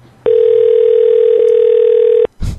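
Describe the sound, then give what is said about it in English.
An unanswered phone call ringing on the caller's end: one steady, unbroken electronic tone lasting about two seconds, fairly loud, followed by a brief muffled burst of noise. “She's not picking up because she's so pissed.”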